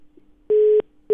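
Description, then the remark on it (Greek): A telephone busy signal after Biden hung up the phone: loud, steady beeps switching on and off in a quick regular rhythm, with a faint hum of the line between pulses and no voices. “Έκλεισε το τηλέφωνο ο Biden.”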